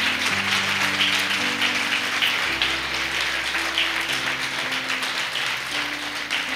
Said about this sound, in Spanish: Denle un fuerte aplauso, por favor, a todos.